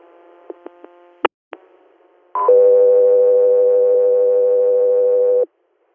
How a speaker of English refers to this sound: Pastor Air, stand by for tones.